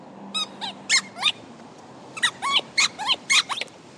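A little green squeezy rubber dog toy ball with legs is squeezed repeatedly: four high, whiny squeaks, a pause, then a quicker run of about seven, each rising and falling like a distressed little cry.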